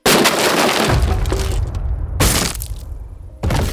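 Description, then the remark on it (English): An upstairs window of a house shatters with a loud, bright crash, followed by tinkling shards and falling debris, then two more sharp breaking bursts at about two seconds and near the end. No one speaks. “An upstairs window shattered.”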